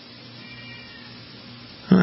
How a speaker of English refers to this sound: I heard a cat meowing.